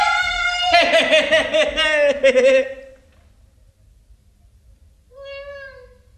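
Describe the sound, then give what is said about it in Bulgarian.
A long, wavering meow-like cry lasting a couple of seconds, then a short, higher meow after a pause. The sounds seem to be a person imitating a kitten's meowing. “Мяу, какво хубаво котенце!”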